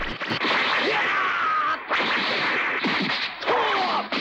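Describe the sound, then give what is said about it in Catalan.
Several quick, sharp swishes cut through the air one after another as Pampuc throws punches and kicks into the air to warm up before a fight, loud with brief gaps between bursts. “En Pampuc salta uns metres enllà i llança cops de puny i puntades a l'aire.”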